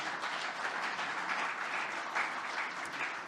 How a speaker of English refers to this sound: But before we get started here, I just want to say thank you to our faculty. If we could all give them a round of applause as a group.